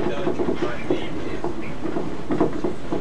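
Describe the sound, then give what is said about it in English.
Steady rumble and rattle of a moving train heard from inside the carriage as it approaches Earlsfield station, with faint, muffled voices murmuring under the noise. “The next station is Earlsfield. Please mind the gap between the train and the platform edge.”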